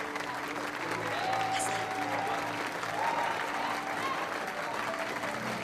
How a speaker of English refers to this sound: Wesley looks at Madison, then back at Bianca, who smiles warmly and claps.